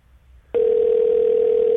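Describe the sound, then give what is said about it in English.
A telephone ringback tone on an outgoing call to a former teacher: a steady, loud electronic hum switches on abruptly after a brief quiet moment and holds unbroken to the end, with no one speaking. “It's ringing. That's a good sign.”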